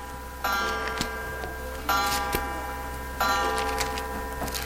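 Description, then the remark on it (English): Several clocks tick together in a steady, unified rhythm, sharp clicks repeating over a faint hum and a bright ringing tone that swells at regular intervals. No one speaks. “Looks like the clocks are synchronized this morning.”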